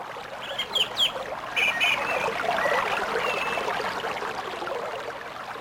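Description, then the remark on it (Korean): A clear mountain valley stream at a mountain temple flows steadily, its continuous bubbling rush filling the scene, while a few brief bird chirps sound over the water in the first couple of seconds. “계곡의 맑은 물소리, 산사의 풍경소리, 목탁소리, 스님의 독경소리, 향내음이 어우러진다.”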